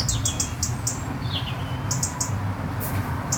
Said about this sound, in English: But yet you've got this little haven here, this green haven with also the sounds of the birds. Well, if we stop for a moment, we can hear the birds.